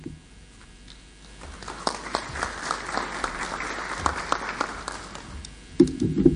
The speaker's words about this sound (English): This is the first time she's presenting at the convention, so I'm going to ask you to give a warm round of applause for her when she comes up.